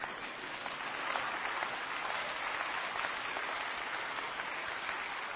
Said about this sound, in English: And you ought to be clapping right now.